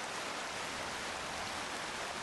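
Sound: water flowing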